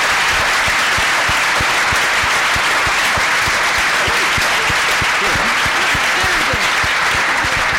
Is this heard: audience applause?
yes